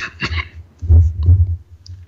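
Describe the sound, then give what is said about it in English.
A few faint clicks, then two short, throaty coughs in quick succession, fairly loud, with a brief quiet gap before the second. “Cough, cough.”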